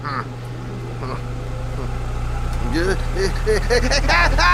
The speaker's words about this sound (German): Der Ventilator! Der macht den Wind. Ach ja, den haben wir ja heute aufgestellt. Ja, weil es so heiß war. Und dann völlig vergessen. Der macht doch das Geräusch.